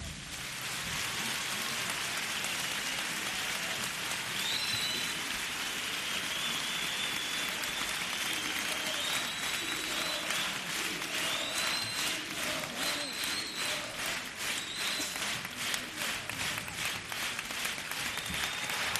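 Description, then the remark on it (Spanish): A large audience at the Gran Teatro Falla in Cádiz applauds loudly and steadily for the whole stretch as a carnival chirigota group takes its leave, a dense crackling roar of clapping with occasional high whistles and faint cheers mixed in. “chirigota que se despide con este aplauso tronador del público del Gran Teatro Falla.”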